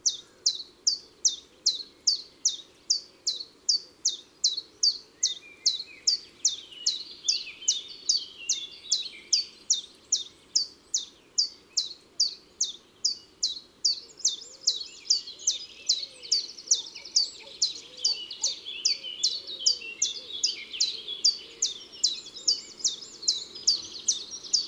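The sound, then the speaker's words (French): A common chiffchaff sings a long strophe lasting almost 30 seconds, a steady run of sharp, high notes, alternating slightly in pitch in an even, metronomic rhythm, with no pauses and no voices. “Les cris communs du Puyo Veloz sont aussi simples que son chant.”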